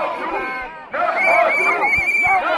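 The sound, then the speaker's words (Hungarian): A street crowd of protesters at the corner of Szerb utca and Váci utca shouting together, many overlapping raised voices forming a loud, continuous roar with a sudden swell partway through. “A tömeg itt most megállt.”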